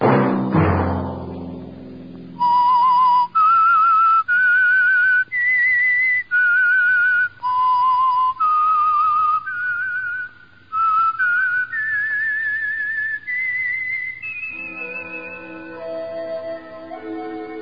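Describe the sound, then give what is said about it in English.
A radio program's theme: a sustained whistled melody of steady, clear notes rising and falling in a stepwise tune, preceded by a brief low crash, then ending on a held high note over soft instrumental backing. “Let that whistle be your signal for the Signal Oil program, The Whistler, each Sunday night, same time.”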